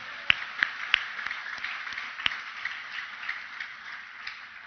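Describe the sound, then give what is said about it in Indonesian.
An audience claps hands: a few sharp claps stand out at first over a steady, diffuse wash of many hands clapping at once, continuing evenly without voices. “Tepuk tangan.”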